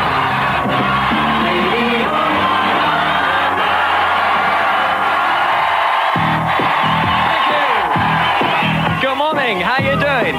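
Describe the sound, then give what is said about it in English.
A large crowd at an outdoor Radio 1 roadshow cheers and yells loudly and continuously, with whoops and shouts rising over a dense wall of voices that swells again toward the end. “Have a wonderful crowd here.”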